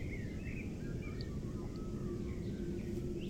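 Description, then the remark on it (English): Faint, scattered calls of a few unidentified birds chirp over a steady low outdoor rumble in damp, still weather, several short thin notes overlapping at irregular intervals with no talking. “There are a few others around, but I don't know what they are.”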